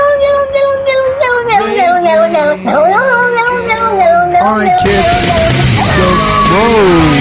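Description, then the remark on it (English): A cat yowls loudly and continuously, its drawn-out cries wavering and sliding in pitch. Partway through, the sound turns harsher and noisier, with several overlapping wails. “Oh, here's No-No Cat.”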